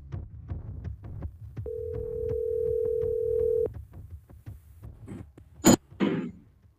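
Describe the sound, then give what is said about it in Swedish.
A steady telephone ringing tone of an outgoing call sounds once for about two seconds over a low rhythmic thumping background, followed by a sharp click and a brief burst of noise. “Det är med spänd förväntan jag ringer upp”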